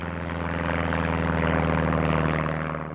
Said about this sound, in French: En avion.